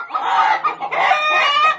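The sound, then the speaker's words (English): Chickens on a farm cluck steadily and fairly loudly, several birds overlapping in a busy, continuous chatter with a few sharper calls rising above the flock. “So many eggs. Thank you, chickens.”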